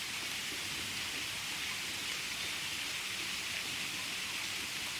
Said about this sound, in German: Und jetzt regnet sich das hier so langsam ein. Ich bin ganz glücklich, dass es noch so ein paar ordentliche fetter Donnergrollen gab, die diese Folge 100 untermauern sollen.